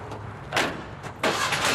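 car engine starting

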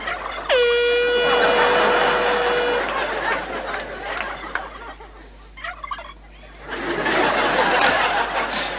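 turkeys gobbling

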